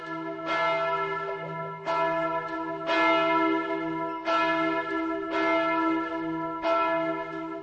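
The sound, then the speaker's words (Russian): A church bell tolls six times at a steady, unhurried pace, each loud, resonant strike ringing on and overlapping the next. No voices are heard. “Значит, колокола звонят для людей, которые им не нужны.”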